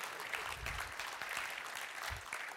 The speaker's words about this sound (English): Thank you for that pathetic smattering of applause.